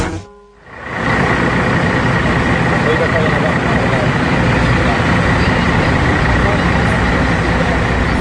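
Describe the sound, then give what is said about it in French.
After a brief quiet moment, the loud drone of idling tour coaches at the Old Port in Marseille sets in and holds steady, a dense continuous rumble with no breaks. “Et sur notre droite, il y a une série de cars de voyage, avec devant des touristes qui portent un petit badge jaune”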